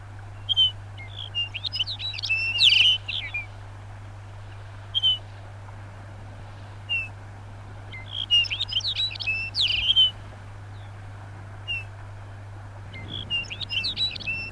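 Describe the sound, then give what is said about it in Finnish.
A Lapland bunting sings short, jingling, twittering phrases in bursts every few seconds, bright and high-pitched over a steady low hum, with faint single call notes in between. “Viikon luontoääni on Lapin sirkku”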